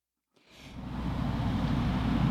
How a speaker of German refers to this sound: Draußen brummt ein Auto. Ob das Oma und Opa sind?